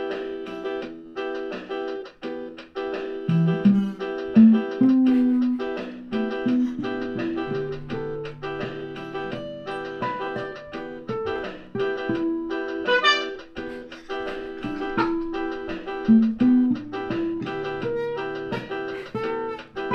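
A melodic electric guitar solo sings over a full band backing, with sustained bent notes and quick runs rising above steady chords and bass at a consistent, moderately loud level.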